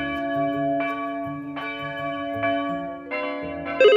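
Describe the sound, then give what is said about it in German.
A church bell rings steadily, its strikes landing about once per second and each tone humming on into the next, fairly loud with no voices. “Das war die Glocke von Joyce.”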